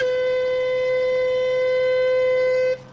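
One long, steady warning whistle blast holds a single loud, buzzy pitch for nearly three seconds before cutting off abruptly, leaving faint background noise.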